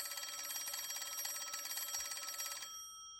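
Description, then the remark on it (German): An old-style telephone bell rings in a hallway with a rapid, continuous metallic trill for a couple of seconds, then cuts off abruptly, leaving a brief fading resonance. Fairly loud, with no voices. “In diesem Moment klingelte dort das Telefon.”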